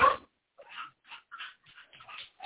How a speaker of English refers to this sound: Yeah, your dogs are barking and mine are all looking at me like, where's that coming from?